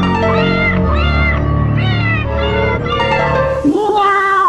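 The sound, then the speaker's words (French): A cat meows loudly, several drawn-out, rising-and-falling meows following one another in quick succession with no talking, a sound effect for a cat walking around. “On voit le chat qui se promène avec les mêmes hosties de sound effect que plus tôt.”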